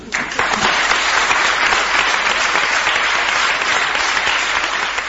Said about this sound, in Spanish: Aplausos de los suyos, de la oposición y de la gente que allí estaba en el pleno.